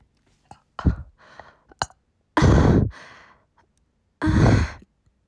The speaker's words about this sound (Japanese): 炭酸飲まなくてもゲップ出るんだね。ちょっと新発見。